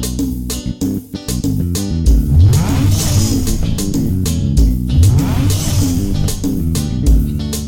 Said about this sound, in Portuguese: Olha o barulho do motor.